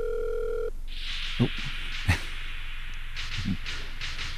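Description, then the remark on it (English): A steady electronic telephone ringback tone of an outgoing call hums for under a second at the start, then cuts off into a hissy line with a few faint thumps and barks in the background. “Nobody's ringing.”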